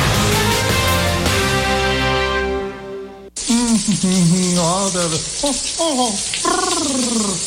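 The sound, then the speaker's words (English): After a few seconds of tonal music, a steady, loud rush of running water from a faucet begins and continues throughout, with voices talking over the hiss. “Did you just turn on some water someplace?”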